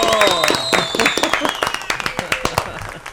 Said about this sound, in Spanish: como es usual en este programa, lo vamos a recibir con un aplauso.